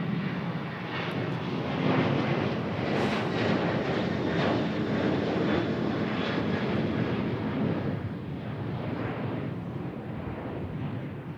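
vehicle, airplane passing overhead

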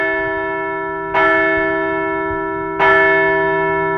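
sound effect, bell ringing

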